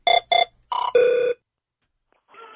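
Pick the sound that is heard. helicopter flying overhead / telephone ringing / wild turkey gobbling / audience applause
telephone ringing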